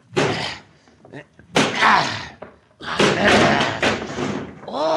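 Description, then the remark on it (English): Heavy thuds of a shoulder slamming into the locked door of a shack, three loud blows spaced about a second apart, each with a rattling, crashing tail as the door is forced, with a voice briefly at the end. “He may not be in here, but this door is locked. I'll try to break it down.”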